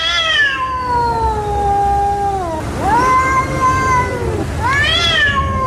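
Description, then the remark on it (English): Two cats trade long, drawn-out yowls at night at a house, the wavering howls rising and falling against each other in a tense, continuous exchange, as if about to fight, lasting for hours, loud with no talking. “Two cats, I thought were about to have a fight, and they never quite got into it.”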